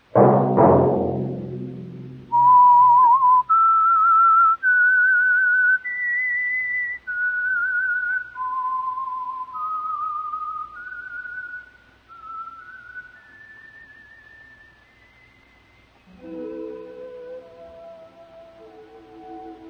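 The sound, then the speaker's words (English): A lone person whistles a slow, clear theme-tune melody for a radio program, with held notes that climb and dip, framed by a short burst of music at the start and instruments swelling in at the end. “Let that whistle be your signal for the Signal Oil program, The Whistler, each Monday at this same time.”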